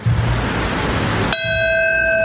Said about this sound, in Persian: تنین صدای ناقوس در نیویورک، درست در لحظه‌ای که 20 سال پیش اولین هواپیما به یکی از برج‌های دوقلو مرکز تجارت جهانی برخورد کرد.